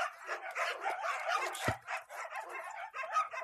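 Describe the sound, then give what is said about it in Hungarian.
Dogs bark and yip almost without pause, several overlapping voices forming a busy, fairly loud chorus, with one sharp thump partway through. “Visszahoztam a kutyát.”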